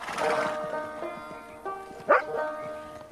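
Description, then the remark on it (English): A shaggy, light-coated, retriever-like dog, wagging its tail, barks a few times at night on a dark plain as it stops horses in their tracks, opening with a loud woof and adding a sharp yelp near the end, over a steady, sustained tonal background. “A shaggy, light-coated, retriever-like dog, wagging its tail, stops the horses in their tracks.”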